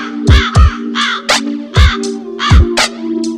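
A crow caws repeatedly, about seven harsh, nasal calls in an uneven rhythm, loud, over a steady low hum and deep thumping beats.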